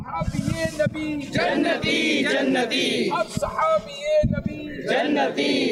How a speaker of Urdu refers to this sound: کراچی پہنچنے پر رکن شورا کے ہمراہ عاشقان رسول نے ہر صحابی نبی جنتی جنتی کے نعرے بھی لگائے.